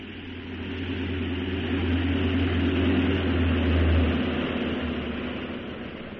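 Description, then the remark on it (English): A steady, heavy aircraft engine drone with a low rumbling hum, swelling slightly toward the middle before easing off, continuous like a plane coming in to land at a military airport. “You better get back into your seat. We're landing.”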